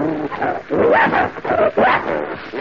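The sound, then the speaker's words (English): A bloodhound named Prince whines and whimpers in a run of rising and falling pitched cries, with a few short bark-like bursts, loud with no talking. “That's a nice name, and you're a bloodhound, are you?”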